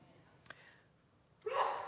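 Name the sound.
sneeze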